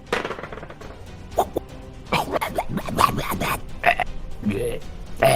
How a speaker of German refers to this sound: Rülpst nicht so komisch an mir vorbei, das ist ja eklig.